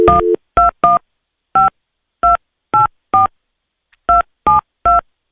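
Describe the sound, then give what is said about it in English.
A string of about ten touch-tone beeps as a phone number is keyed in, each crisp dual-tone chirp loud, tapped at an uneven pace with short pauses between digits. “Some people say that you can tell the phone number that's dialed by that.”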